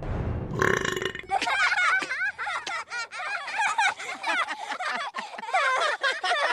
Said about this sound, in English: Peter punts it, and it lands in Cubby's mouth. Swallowing it, he burps out a few paper scraps.